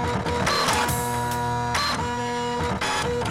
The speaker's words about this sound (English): This one, Printer Jam.